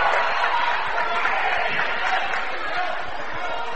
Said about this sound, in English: Legacy got a nice little crowd behind us, don't they? We got a great crowd, like we said, cheerleaders, and said this is a unique venue here at Tecumseh High School.